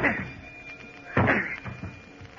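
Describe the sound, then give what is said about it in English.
Several heavy, dull thuds land at uneven intervals against a solid, stuck stateroom door on a ship, fairly loud, as someone tries to break it down without it giving way. “Maybe I can break it down.”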